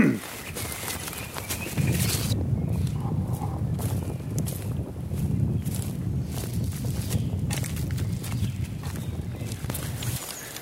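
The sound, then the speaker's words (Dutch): Steady walking footsteps, crunching along at an even pace outdoors, with a continuous low rumble like wind or handling noise underneath throughout. “Ik ga nog even een stukje lopen.”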